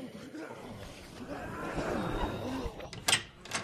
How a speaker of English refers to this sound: Okay, head for the door. Front door open.